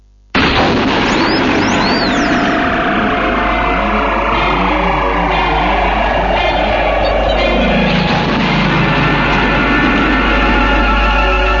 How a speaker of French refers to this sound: Jingle des quatre fantastiques.